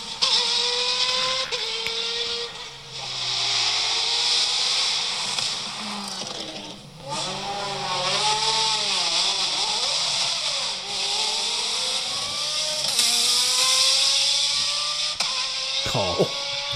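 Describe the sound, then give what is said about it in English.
A loud race car at a hill climb revs hard, its pitch climbing and dropping in repeated sweeps, with a few sharp sequential-gearbox bangs at the upshifts over a constant roar of noise. “I like a proper bang on the upshift. Yeah, proper sequential bang.”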